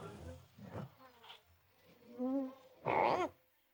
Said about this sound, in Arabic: هناك هر يصرخ عاليا.